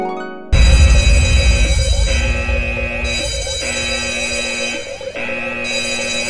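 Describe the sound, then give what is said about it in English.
A loud alarm bell rings continuously, a harsh, buzzing metallic clang that pulses in a steady repeating cycle about once a second, starting abruptly after a brief moment and never letting up. “Here's hoping that alarm woke you from your torpor as you snooze through the banter.”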